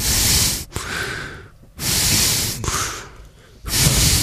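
Loud, heavy breathing in a steady rhythm, picked up over an office webcam link: three long, rasping breaths roar through a wide band of noise, each separated by a brief quieter pause, with no talking.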